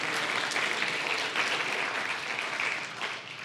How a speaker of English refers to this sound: Can you give Toby a round of applause?